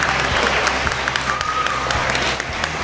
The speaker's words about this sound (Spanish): Un aplauso muy fuerte para la mascota que está por ahí tomando. Y ha repartido algún regalito que otro. Repartiendo regalo. Venga, un aplauso para la mascota de Logitravel.